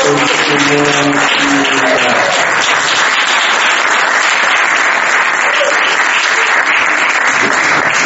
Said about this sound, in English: So I think that itself deserves a huge round of applause.